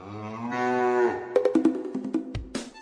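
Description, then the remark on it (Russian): A cow lets out one long, drawn-out moo, its pitch climbing before it breaks off, followed by a quick series of sharp wooden knocks and a short lower grunt, as a herd of sheep, horses and cows, driven by an old shepherd, comes down a sloping riverbank to drink. “Первыми подходят к воде овцы, за ними лошади, за лошадьми коровы.”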